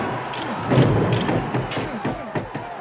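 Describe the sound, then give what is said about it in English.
A rapid barrage of heavy film punch sound effects from a boxing scene of Sugar Ray Robinson punching Jake LaMotta: a dense run of thumps and whooshing impacts with animal sounds, jet engines and flashbulbs mixed in, piling on top of one another over a few seconds, with a swirl of layered noise underneath. “And then he just unleashes this barrage of punches.”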